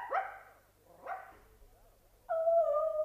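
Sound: dog whimpering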